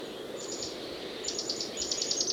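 Mexican jays call in short bursts of rapid, repeated notes, a few series in quick succession, fairly faint over a steady outdoor rush of background noise.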